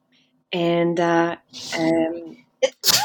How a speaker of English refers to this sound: I just sneezed. Bless you.